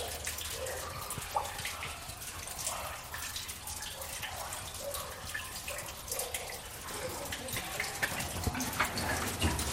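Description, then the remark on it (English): A very small amount of water trickles and splashes steadily at the very bottom of a narrow underground shaft, a continuous wash of sound with faint shuffling movement and no clear speech. “Very small amount of water at the very bottom here.”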